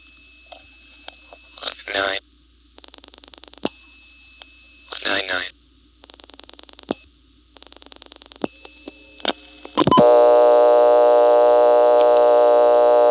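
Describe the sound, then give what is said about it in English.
Bursts of rapid telephone dial clicks repeat over a faint steady tone, with brief chirping tone blips between them, then a loud, buzzy second dial tone starts abruptly and holds steady to the end. “Anyway, on this call, I'm going to dial the rest of the number, and you'll hear it start to click into that 1 kHz tone, but as soon as the answer signal is detected here in Plainfield, the tone will be replaced with the second dial tone.”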